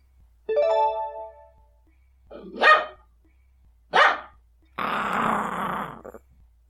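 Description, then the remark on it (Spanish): A guard dog barks loudly, several sharp, separate barks, then a longer rough growling snarl at the end, with no talking. “Por suerte, Gordon, el perro guardián, está cerca y oye la conversación entre Daniel y el zorro.”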